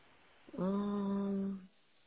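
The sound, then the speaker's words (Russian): A single steady, buzzy electronic tone from a phone as speakerphone is switched on sounds for about a second, fairly loud, then cuts off, with a quiet background around it. “Сейчас, подождите, сейчас громкую связь сюда включу.”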